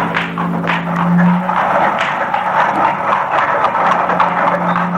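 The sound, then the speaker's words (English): Heavy wagon wheels rumble and roll steadily under a low droning hum as wagons leave a castle courtyard down a rocky way, broken by frequent sharp cracks and knocks of whips over the clattering wagons; no one speaks. “In the courtyard and down the rocky way, the roll of heavy wheels, the crack of whips.”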